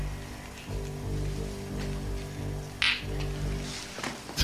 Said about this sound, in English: That was the glass hitting the glass, not a fart.